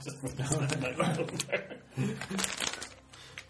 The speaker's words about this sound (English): So, no rustling sweets next to the microphone.